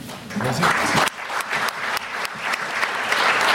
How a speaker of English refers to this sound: We should hope we'll never get through if you guys applaud after every answer. So we'll save that for the end.